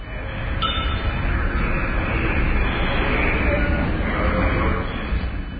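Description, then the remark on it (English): A loud, steady subway train rumble fills the whole stretch, a dense, muffled roar with rattling undertones that holds constant throughout, with only faint, brief clinks surfacing above it. “That's right, the sound of a subway.”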